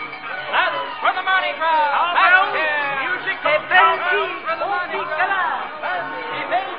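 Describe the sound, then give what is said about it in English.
A dense, lively crowd chatters all at once in New Orleans in 1850 during the Mardi Gras season, many overlapping voices rising and falling with bright exclamations and a hint of laughter, steady throughout. “The city is gay with bunting and confetti, ringing with laughter and music, for this is the Mardi Gras season, the eve of the Proteus Ball.”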